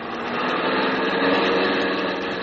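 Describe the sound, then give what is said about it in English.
A car engine roars steadily at speed, a continuous buzzing drone that swells slightly in the middle and then holds, with no voices over it. “Please, do you have to drive so fast?”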